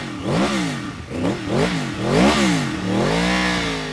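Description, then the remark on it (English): A sleek blue R1 sport motorcycle, 180 horsepower stock, revs up and down in quick, rising bursts outside TNT Motorsports in West Laramie, Wyoming, then settles into a steady high idle, loud with no voices. “shows off a sleek blue R1 motorcycle.”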